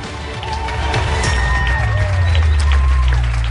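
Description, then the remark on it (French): Loud, sustained studio audience applause as the coaches are welcomed at the start of a show, a dense steady crackle of clapping that swells in the first half second and holds, with a few cheers and musical tones mixed in underneath. “Alors nous allons débuter notre émission et nous allons accueillir les coachs sous vos applaudissements.”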